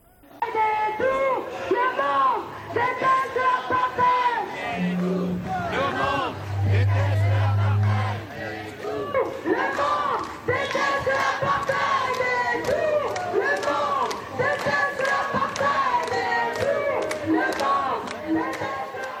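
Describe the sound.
A large crowd chants slogans in loud, rhythmic unison, voices rising and falling together in repeated phrases over a steady roar of many people, with brief low droning tones underneath.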